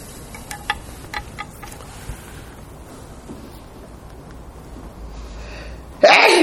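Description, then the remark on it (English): A faint hum with scattered clicks, then a sudden, loud, breathy sneeze bursts out right at the end. “Bless you.”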